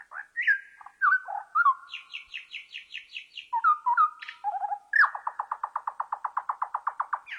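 A bird trill recording played slowed down: drawn-out whistled glides and a quick run of high notes, then a long, steady series of evenly pulsing, lower-pitched notes, clear with no talking.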